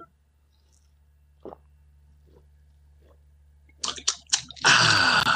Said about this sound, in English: Every week we're going to be doing a water break. I haven't decided when, but when I announce it, you'll know so that we can all drink water together as a family. All right, everybody get your cups and your water bottles. 3, 2, 1, drink.